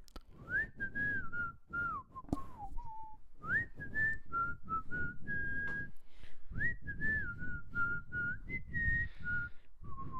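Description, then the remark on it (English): A person whistles the song from the beginning of an animated movie, a lively, bouncy tune hopping through short phrases of clear, sliding notes with brief breathy pauses, no talking over it. “I love the whistling song at the beginning of Robin Hood, the animated movie. How's it go? It goes.”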